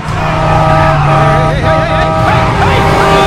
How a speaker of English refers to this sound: He narrowly misses an oncoming vehicle.